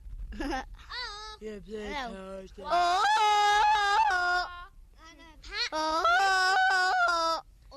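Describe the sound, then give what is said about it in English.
A voice imitates a Tarzan-style jungle yell: a few short rising whoops, then two long, loud, warbling high-pitched cries with a wavering, yodel-like tremble. “Will I do the Tarzan call?”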